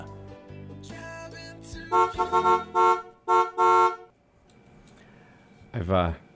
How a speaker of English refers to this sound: I've gotten used to waiting for that beep. I used to start speaking, then the beep would interrupt me, so I'm getting better at that.